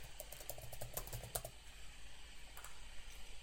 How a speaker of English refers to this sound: So what I'm going to show you here is that I can actually connect up to Management Studio. I'm just typing in the password. And oops, which means I've got the password wrong.